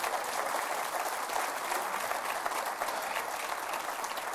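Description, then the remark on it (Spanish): An audience applauds for Christ steadily, a dense, even wash of many hands clapping at once, sustained and fairly loud throughout with no voices standing out. “Está bien, denle un aplauso a Cristo.”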